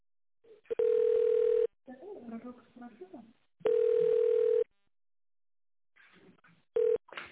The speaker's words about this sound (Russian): Вы позвонили в компанию «Светон». Для выбора нужного вам абонента введите добавочный номер после звукового сигнала или дождитесь ответа секретаря.